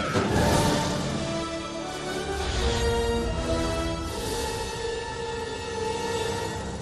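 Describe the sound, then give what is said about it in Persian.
A large flock of sheep on a road bleating continuously, many overlapping wavering cries forming a dense, loud chorus, with no talking. “یا عالم گوسفند.”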